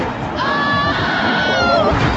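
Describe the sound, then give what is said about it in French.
A short, high-pitched wavering cry of fright from a female video game character as she performs an impressive stunt, rising and falling in a bleat-like quiver over a steady wash of loud game noise. “Vous avez entendu le petit cri, ça, je trouve ça génial. Quand elle fait des figures impressionnantes, elle pousse des cris de frayeur.”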